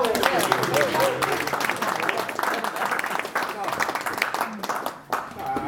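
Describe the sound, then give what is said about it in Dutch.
Steady applause from an audience fills the whole stretch, a dense wash of clapping that fades slightly at the end, with voices murmuring and cheering underneath. “Applaus.”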